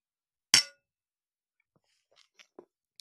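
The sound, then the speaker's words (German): A bright glass clink rings out sharply once as drinking glasses touch in a toast to love, followed by a few faint small clatters and taps in otherwise quiet surroundings. “Ein Drink. Okay, machen wir. Worauf trinken wir? Auf die Liebe. Den Motor und Antrieb für alles. Prost, ne? Prost,”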